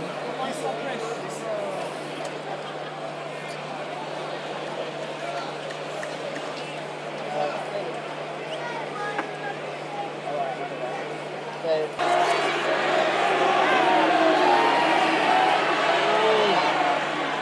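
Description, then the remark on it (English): A large stadium crowd roars and chants a drawn-out "heave", urging the players in a maul to heave backwards, in a steady, dense wash of voices, swelling noticeably louder partway through and holding that level to the end. “I think it's heave rather than boo.”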